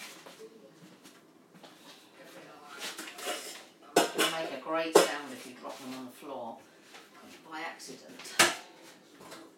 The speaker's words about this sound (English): Oh, I've got to put these dog bowls away. Excuse the big clatter now. Four stainless steel dog bowls.